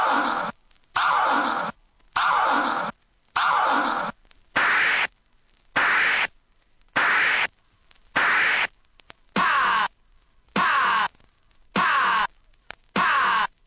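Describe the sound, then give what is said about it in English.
Turntable record scratching in a steady rhythm of about a dozen loud, gritty bursts, each cut off sharply by a brief silence, with whooshing pitch sweeps inside each burst. No voices. “Oh, that scratching is making me itch.”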